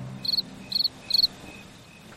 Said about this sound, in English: What do you think? Wow. Crickets.